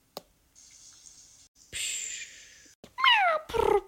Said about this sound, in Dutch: Oh my god, een kat.